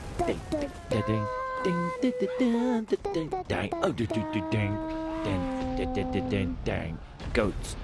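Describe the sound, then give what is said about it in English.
Voices sing a wordless movie soundtrack tune, with long held notes stepping up and down in pitch and choppy vocal bursts in between, fairly loud throughout. “Can you help me with the let's sing a bit of soundtrack, okay?”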